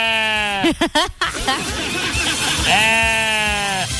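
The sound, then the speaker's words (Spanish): A donkey brays strangely up close, loud and bleat-like: a long wavering call, a few choppy broken honks, then another drawn-out, quivering cry that fades at the end. “Oye, ¿qué, pero qué está como raro el burro? ¿Qué le pasó?”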